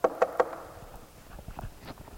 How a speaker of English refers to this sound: Knock on the door, go to the house, go up to someone's house.